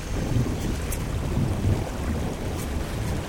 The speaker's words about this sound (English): I think it's a groundquake.